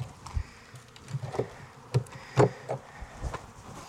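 honeybees buzzing

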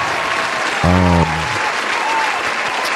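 hand clapping applause

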